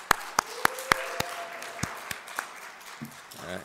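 A string of sharp, crisp hand claps as a clap offering at a church service rings out in an uneven rhythm, roughly eight or nine distinct smacks, thinning out before a brief voice rises at the very end.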